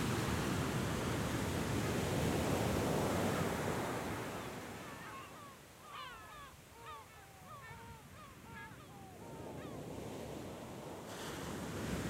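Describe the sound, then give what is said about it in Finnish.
Ocean waves roll and crash onto the shore at Grand Popo in a loud, steady roar that swells and recedes, with birds chirping faintly over the surf partway through. “Tämä valtava meri on uhkaavuudestaan huolimatta keskeinen, joskin riutuva elinkeinon lähde.”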